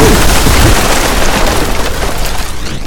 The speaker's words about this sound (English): you are knocked flat onto your stomachs as this massive blast of magic fires off inside the house.